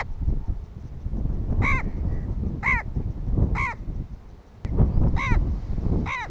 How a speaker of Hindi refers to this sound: ये आवाज़ें मिस्री गिद्धों की हैं जो पाकिस्तान में मेहमानों के तौर पर आए और फिर यहीं के हो गए। सहराए थर मुल्क का वो वाहिद इलाका है जहां आज भी न सिर्फ गिद्ध बाकी हैं बल्कि ताज़ा तरीन सर्वे के मुताबिक इनकी तादाद मुसलसल बढ़ रही है।